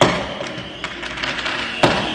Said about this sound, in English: Anderson shot video of the fireworks from his kitchen window.